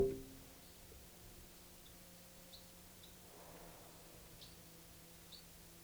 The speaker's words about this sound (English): It's flight calls.